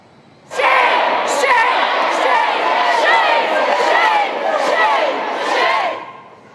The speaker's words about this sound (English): Protesters can be heard screaming shame as they're told to leave the gallery.